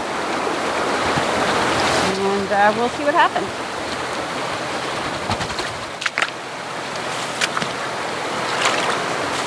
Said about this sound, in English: So I'm going to step down into the river here.